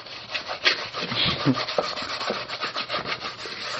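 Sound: washing dishes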